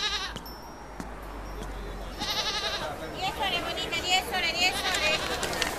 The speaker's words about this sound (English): Well, at least there are no more... Ugh, goats. More goats, great!